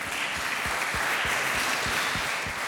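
An audience at the Deutscher Pflegetag (German Care Day) gives itself a round of applause after a quiz, bursting into steady, dense applause, a continuous wash of many hands clapping at an even loudness throughout, with no voices standing out.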